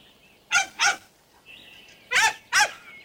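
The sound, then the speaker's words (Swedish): A brown short-haired dachshund, Västerman's dog in the film Djurkompisar (Tjorven, Båtsman och Moses), gives four sharp, high-pitched barks in two quick pairs, separated by a brief pause, with faint whistling tones in the quiet stretches between. No one speaks. “Jag ska bara lite kort nämna också en tax till, och det är ju det är ju i filmen som du var inne på, Djurkompisar, Tjorven, Båtsman och Moses, så finns ju Västermans lilla korthåriga tax, brun, fin.”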